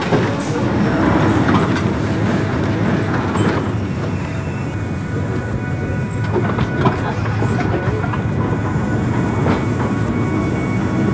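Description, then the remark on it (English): A London Underground train at Sloane Square station runs along the track with a steady, loud low rumble and a roaring hiss, broken by irregular metallic clacks and rattles from the wheels throughout. “This is Sloane Square, Sloane Square! Watch the doors, miss.”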